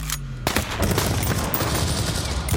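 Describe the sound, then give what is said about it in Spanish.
A loud burst of gunfire outside a house in the early morning hours: sharp shots crack out in quick succession, with a dense, rattling barrage in between. No one speaks. “Anderson es asesinado a tiros afuera de su propia casa”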